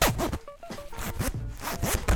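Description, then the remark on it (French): A K-Way jacket zipper is pulled up and down several times in quick, raspy strokes, fairly loud, with no voices. “Le son de la fermeture éclair de notre kawé.”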